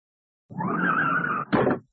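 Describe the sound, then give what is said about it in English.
A learner driver's car tires screech in a sustained skid for about a second, then a loud, short crash of impact cuts in as the car hits a lamppost. No voices. “She's hit that lamppost.”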